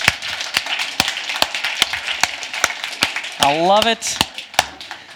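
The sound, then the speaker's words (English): A church audience claps in a steady, even rhythm, roughly two claps per second, as the children are dismissed to Revolution Kids Church, with a brief rising vocal whoop cutting in partway through. “Keep our clapping going.”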